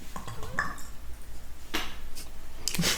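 human body sound, gulping a drink

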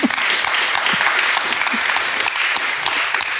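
crowd, audience applause

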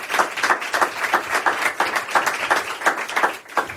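crowd, warm audience applause

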